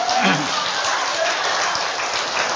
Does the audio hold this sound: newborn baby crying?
no